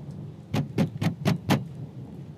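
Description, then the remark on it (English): Five heavy bangs on a door in quick, even succession, each a solid thud with a sharp crack, followed by quiet. No voices. “A bang at the door startles you for a moment as a letter from Grandpa falls to the ground.”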